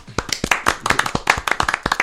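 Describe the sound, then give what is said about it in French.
An audience claps for about two seconds, a steady run of sharp, bright hand claps with slightly uneven rhythm, fairly loud and with no voices over it. “Pouvez-vous, pour applaudir, mais.”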